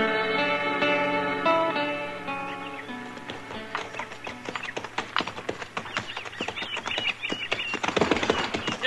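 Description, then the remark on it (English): A sustained musical chord fades out, giving way to a horse's hooves clip-clopping on the trail from Cimarron in a steady, slightly uneven rhythm of sharp taps that grow a little louder toward the end. “Oh, this dang horse has tromped in every prairie dog hole since we left Cimarron.”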